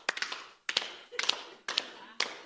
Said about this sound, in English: All right, and then you guys clap your hands with me like this.